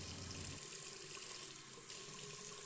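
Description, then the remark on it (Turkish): Shower water runs in a steady, continuous hiss, fairly loud, with a slight shift in the spray partway through and no voices, as someone takes a quick shower. “Neyse, hadi ben de hızlıca bir duş alıp geliyorum hemen.”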